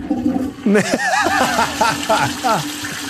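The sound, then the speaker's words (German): A toilet flushes in a hotel room in Vienna, Austria: a sudden rush of water starts after a short pause and carries on with warbling, gurgling whistles rising and falling for a few seconds. “So tönt das auch die WC-Spülung.”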